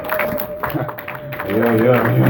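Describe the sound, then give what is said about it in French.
An audience applauds to acclaim the Lord in the evening, a steady, noisy wash of clapping, and midway through raised voices join in with cheers and shouts that carry on over the applause to the end. “Quelqu'un peut-il acclamer le Seigneur ce soir?”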